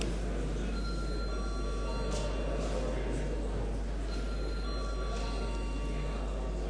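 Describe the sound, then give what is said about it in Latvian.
An electric parliamentary voting bell rings steadily for several seconds as deputies are called to vote on passing a draft law to committee, a continuous buzzing clang with a few sustained high tones, fairly loud and unbroken, with no talking over it. “Lūdzu zvanu.”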